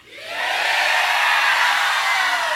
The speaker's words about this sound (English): I'll start by saying the number three. And then after that, I'll say two. Then after that, I'll say one. And now you're supposed to yell yeehaw right now.